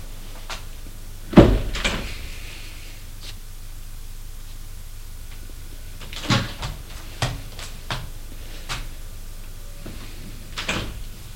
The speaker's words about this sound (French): Et sort de l'appartement. Prennent l'ascenseur.